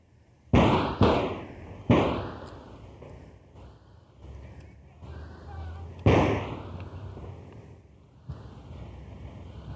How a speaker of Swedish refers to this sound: Ja, det small på ganska bra. Ja, i fantasin när jag hör det så ser jag nästan hur någon, efter de första skotten så hör man någon som ropar något agiterat. Ja. Och sen kommer ett nåda skott som sänker honom och sen skytten skrattar elakt.